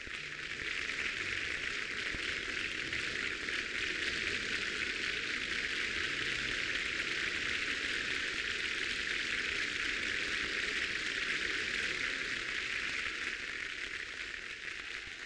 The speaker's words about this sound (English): The insistent applause of the audience has brought Maestro Toscanini back to the stage again. He is now beckoning toward the members of the orchestra, as he so often does, to show that he wants them to share the applause with him.